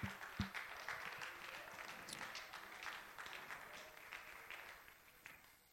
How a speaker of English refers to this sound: Why don't you applaud the Lord? Thank you, Jesus.